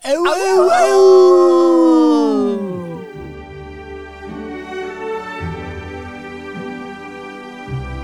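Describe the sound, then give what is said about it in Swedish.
Human voices imitate dogs with loud, drawn-out howls that slide downward over a few seconds, then give way to soft, steady musical tones. “Och då ylar vi.”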